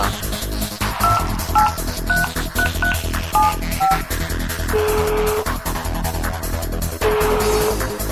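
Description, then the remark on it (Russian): A phone number is keyed in as a quick string of about eight short touch-tone beeps, followed by two longer ringing tones, as a call is placed to a teacher, all over a steady, rhythmic music bed. “Ну а теперь все вместе давайте позовем препода к телефону.”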